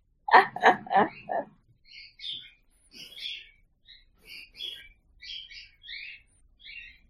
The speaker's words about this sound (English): Although there might be several birds that are coming in to help you.